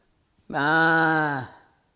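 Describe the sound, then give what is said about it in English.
A single drawn-out sheep bleat, fairly loud, holding a steady nasal tone for about a second before dipping in pitch and fading, with silence before and after. “He hears the bleating of the sheep that Saul had not destroyed.”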